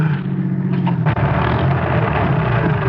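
A car engine on Highway 17 runs with a steady, low rumble that falters briefly with a sputter partway through, then keeps chugging unevenly as the car stops. No one speaks.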